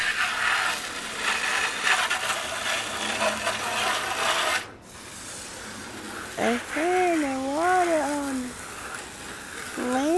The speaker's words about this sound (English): They thought I washing car. Ooh, they spraying the water on us.